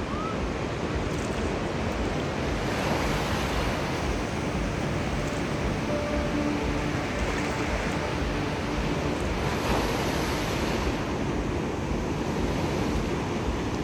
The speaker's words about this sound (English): And listen to the water, to the waves.